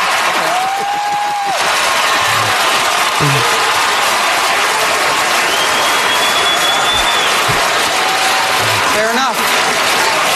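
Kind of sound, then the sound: crowd, crowd cheering and applauding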